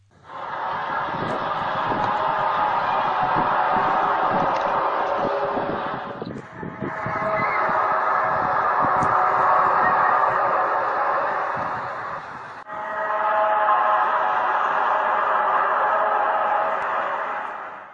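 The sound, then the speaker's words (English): A loud, eerie drone of hissing, white-noise-like roar carrying steady horn-like tones, rising in three long sustained swells separated by brief dips, with no voices; a sound from Dunkirk, New York, posted on YouTube on February 16, 2012. “in February 2012, a dozen new videos were added at YouTube that include an eerie sound from Dunkirk, New York, posted on February 16th, that starts off as white noise and becomes horn-like.”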